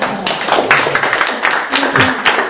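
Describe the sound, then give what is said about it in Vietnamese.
A crowd claps together in a steady, dense burst of applause for a young man who recited the fifth Joyful Mystery of the rosary. The applause stays fairly loud and even for a few seconds, with individual sharp claps standing out from the wash. “Vâng, một anh thanh niên mà thuộc được ngắm thứ năm mùa vui, đáng là một tràng pháo tay thưa anh chị em.”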